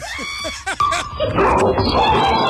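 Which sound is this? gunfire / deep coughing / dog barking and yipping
dog barking and yipping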